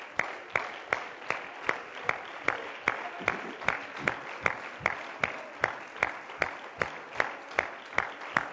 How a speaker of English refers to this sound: Put your Bibles down. Clap your hands one more time to God and give Him thanks.